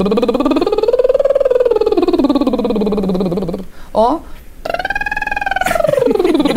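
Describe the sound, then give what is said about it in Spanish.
A voice does buzzy lip trills as a vocal warm-up, sliding up in pitch and back down, twice, with a brief break between the two loud, steady glides. “Yo venía haciendo los lip trills que hice ahorita en esta escala, que es...”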